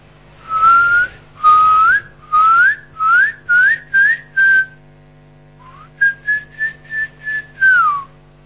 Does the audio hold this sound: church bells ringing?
no